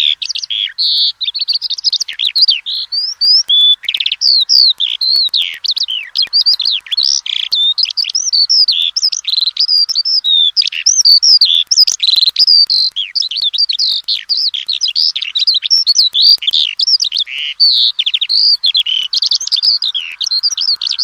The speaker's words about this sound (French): Donc l'alouette des champs, un chant extrêmement continu, sans arrêt, c'est ce qui la permet de la différencier nettement de l'alouette Lulu. Et elle chante tout en volant, en tournant assez grande hauteur, et elle niche au sol.